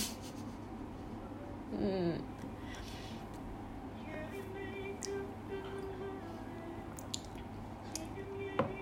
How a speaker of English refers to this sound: I'm pouring the rest of my yogurt to my drink.